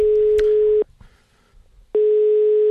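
A telephone ringback tone as Radio Nova's radio service calls Bishop Laila Riksåsen Dahl of Tunsberg diocese: a steady, fairly loud single-pitched beep, a pause of about a second, then the tone starting again. Clear, with no voices.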